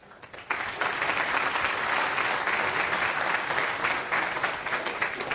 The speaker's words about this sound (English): Round of applause.